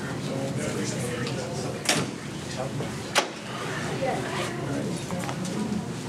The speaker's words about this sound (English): Let me get that door.